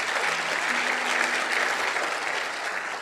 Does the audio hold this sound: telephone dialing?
no